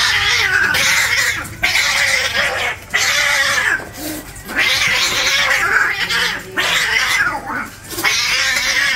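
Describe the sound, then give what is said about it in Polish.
A cat yowls and meows angrily in a string of loud, drawn-out cries with brief pauses between them, unaccompanied by any talking. “Jak możemy wywnioskować z tonu wypowiedzi, koty wcale nie są zadowolone z ludzkiego odkrycia.”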